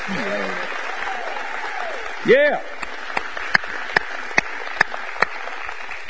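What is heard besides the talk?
audience applause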